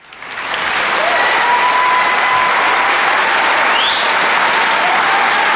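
A large audience bursts into loud, frenzied applause after a violin performance; it swells within the first half second and stays dense and sustained, with a few faint whistles cutting through the clapping.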